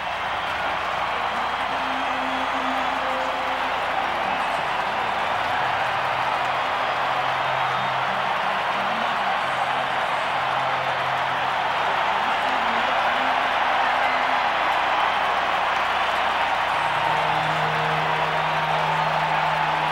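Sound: stadium crowd cheering wildly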